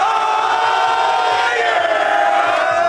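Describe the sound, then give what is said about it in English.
New England Patriots players cheer and holler in the visitors' locker room at Soldier Field, Chicago, after a 19-3 victory over the Bears, a loud, unbroken wall of overlapping shouts and whoops that holds steady for the whole few seconds. “That is the locker room footage, visitors' locker room footage from Soldier Field today.”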